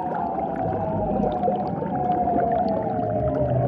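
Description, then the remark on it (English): An eerie underwater seal call, part of a long courtship display to females: a sustained tonal voice gliding slowly in pitch, drawn-out glissando over a steady rumbling, crackly background, continuing without pause. “The lady seals apparently couldn't get enough of these eerie sounds, which is why they evolved into such long, elaborate displays.”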